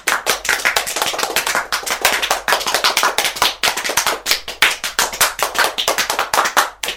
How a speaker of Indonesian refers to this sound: Tepuk tangan untuk semua.